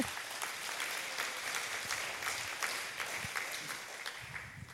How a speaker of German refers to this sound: Und das hier bei uns in Dresden, da ist ein Applaus tatsächlich angebracht.